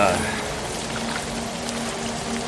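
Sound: rain pouring down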